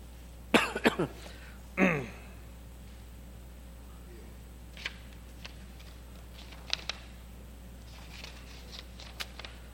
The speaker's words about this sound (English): I'm going to have to stop here tonight because I'm coughing.